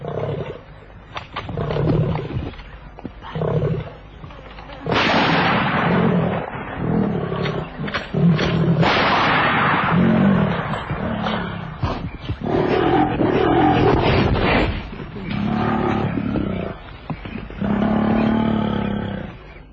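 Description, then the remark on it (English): A full-grown lion growls and roars deeply and continuously for about twenty seconds, loud, with rough rumbling bursts and brief pauses between heavy breaths, hidden in thick bush about 20 yards away. “Growling stopped.”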